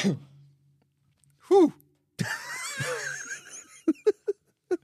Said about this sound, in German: Ich muss niesen. Lass es raus.